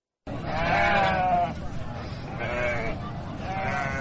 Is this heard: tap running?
no